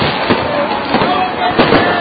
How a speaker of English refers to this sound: Yet another New Year is here. Hard to believe, but it's true. And we have fireworks going off all around us.